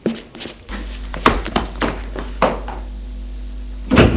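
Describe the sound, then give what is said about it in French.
A door being opened: a series of sharp wooden clunks and knocks, one landing about every second, over a steady low hum, with a final louder thud at the end; it is an unlocked door at the end of a corridor of servants' rooms, leading to the attic. “Puis, au bout du couloir, il y a une porte qui doit communiquer au grenier. Ils y vont.”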